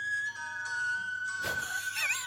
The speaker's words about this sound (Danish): Altså, fløjte hun med munden? Eller? Ja, hun fløjte selv.